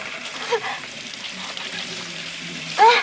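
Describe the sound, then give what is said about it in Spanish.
A kitchen tap runs in a steady, hissing stream of water, constant throughout, as a woman lets the stream fall on her face to wash off gazpacho thrown in her eyes, with a brief louder splash or squeak near the end. “corre hasta el grifo de la cocina, lo abre y deja caer el chorro de agua sobre su cara.”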